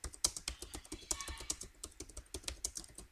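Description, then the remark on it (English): Rapid, uneven clicking of keys on a computer keyboard as text is typed into a document in S Quad Word, a steady burst of crisp keystrokes with occasional louder taps, no voices. “Now let's type something else.”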